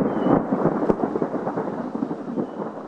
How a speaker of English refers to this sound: Heavy rain showers like this one can be equally devastating as drought. They cause catastrophic floods that wipe out crops and kill livestock.